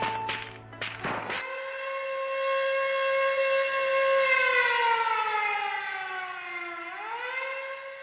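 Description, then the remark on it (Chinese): A loud military combat-readiness alert siren wails steadily with a rich, buzzing tone, its pitch slowly sinking and then swooping back up near the end, after a few short rough bursts at the start. It sounds at four in the morning on Lunar New Year's Day. “大年初一的凌晨四点，战备警报突然就拉响了。”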